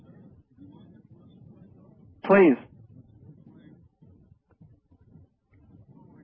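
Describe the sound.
A single short, loud boat horn blast cuts in briefly over low murmuring voices, then fades as quiet talk continues.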